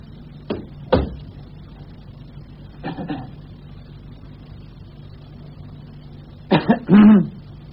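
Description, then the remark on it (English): A person coughs several times: two short coughs, a brief double cough a moment later, then a louder, rougher burst of coughing and throat clearing near the end, against a low steady hum. “I get that cough of yours seen to”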